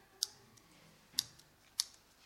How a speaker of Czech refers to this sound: Máte nůžky?